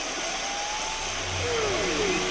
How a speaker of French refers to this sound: Alors là, on entend des chants de des différents types de sons, des whoops, ouais, de baleines à bosse. Ouais, un truc que j'aime bien dans celui-là, c'est qu'on entend une sorte d'écho.